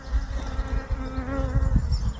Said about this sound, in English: Well, I hope you can hear those bees buzzing. I'm in a herb garden and I'm just stood next to some borage and they are really enjoying these flowers. In fact, this borage has been flowering for about 3 weeks or so now,